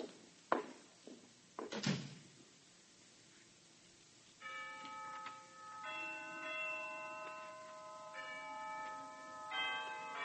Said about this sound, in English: Down from the Harkness Tower floated the chimes of noon, unheeded by the busy undergraduates piling out of classes, criss-crossing the campus as they dashed for eating clubs and fraternity houses